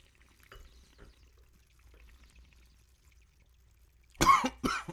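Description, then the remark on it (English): After a few seconds of quiet with faint sipping and liquid sounds as wine is tasted, two loud coughs burst out near the end, the second following right after the first. “No, yeah, it's smooth. I like it. Makes me cough.”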